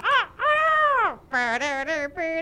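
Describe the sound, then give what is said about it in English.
A crow caws loudly, six harsh, raspy calls in a row, one long drawn-out caw near the start followed by a quicker run of shorter ones. “I got a crow.”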